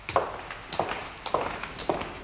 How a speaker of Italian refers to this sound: I suoi passi.